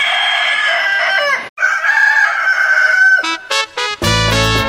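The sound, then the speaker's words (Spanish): A rooster crows loudly, a long harmonic cock-a-doodle-doo, followed by a few choppy bursts as the sound breaks up at the end. No one speaks. “El canto del gallo.”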